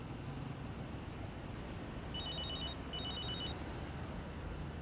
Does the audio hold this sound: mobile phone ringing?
yes